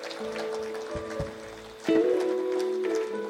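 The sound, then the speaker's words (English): A morning audience claps at a speaker's call to put their hands together, in a dense, steady patter that fills the whole clip, with sustained low musical tones holding underneath and swelling louder partway through. “Put your hands together this morning. I think you can clap with more life.”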